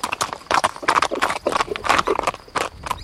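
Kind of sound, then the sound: animal, horse hooves trotting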